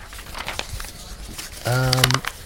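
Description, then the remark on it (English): A sheet of paper is crumpled up to be thrown away, giving a run of soft crackling and crinkling rustles, then a voice breaks in with a brief sustained vocal sound as the crinkling fades. “Oh, no, wait, you know, this paper, you know what, none of us need to read this one. I'm going to throw this one away, actually.”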